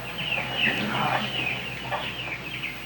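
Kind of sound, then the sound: bird, chickens clucking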